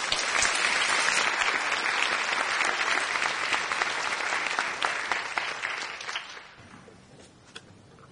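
A crowd applauds steadily with dense, crackling clapping for about six seconds, then the clapping thins out and fades to a few scattered claps.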